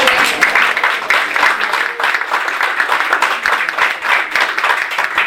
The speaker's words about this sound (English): So we'd like to take this time and just give you appreciation and maybe a little short round of applause here.